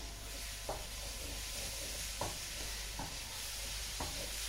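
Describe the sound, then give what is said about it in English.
Steady sizzling of meat searing in hot oil while being kept moving, a continuous crackling hiss broken by a few soft scraping stirs at irregular intervals. No one speaks. “I do like the sound of frying and cooking.”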